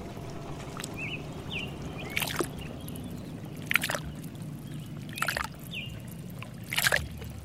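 Lake water sloshes around a small boat in summer, with a splash roughly every one and a half seconds over a steady low rumble. Faint birds chirp in the background.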